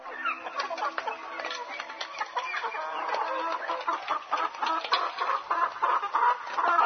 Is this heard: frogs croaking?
no